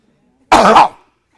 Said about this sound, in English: Feeling like you're ill, feeling like that cough came back, that sore throat came back.